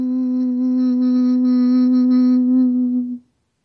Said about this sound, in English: Keep breathing. And now, as you breathe out, chant hum.